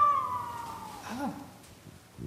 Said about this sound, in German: Was haben wir für ein schönes Geräusch? Wolf.